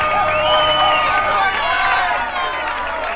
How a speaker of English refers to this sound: But this album is the fakest of all, because they didn't have the decency to record the shouting and clapping live. No, they dubbed it in, but with every song the same piece of tape. Now listen to some samples with the volume cranked up.